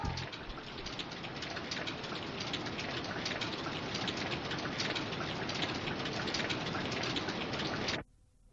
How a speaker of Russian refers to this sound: Дождь идет!